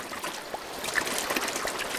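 A small stream at the headwaters of a river trickles and burbles steadily, with bright little splashes and gurgles rising over a continuous watery hiss. It is moderately quiet, with no voices.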